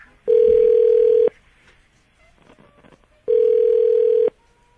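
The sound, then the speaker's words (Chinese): A phone ringback tone plays twice, each a steady one-second buzzy tone followed by a pause, with faint background noise in between as the call goes unanswered. “不接你电话呢， 她现在是五号码，她都不想接。”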